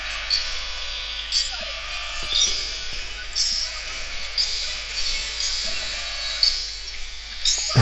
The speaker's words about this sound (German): Und jetzt spiele ich mal ein, wie sich das anhört, wenn Rayo ein Tor schießt und jubelt.